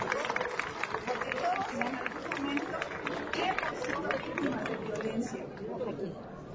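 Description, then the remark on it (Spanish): A crowd claps steadily for several seconds, a dense, continuous patter of many hands at moderate volume with some murmuring voices mixed in, applauding a 10-year-old chess player from Querétaro headed to a world championship in Egypt. “El propósito de estar aquí, gracias, un aplauso.”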